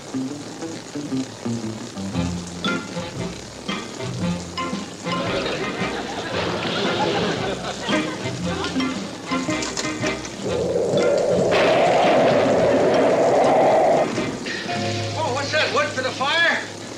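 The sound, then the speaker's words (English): Steady rain hisses throughout, mixed with tonal music-like sounds and a louder rushing burst of water partway through, with some voice-like sounds in the mix. “I'll fix it as soon as it stops raining.”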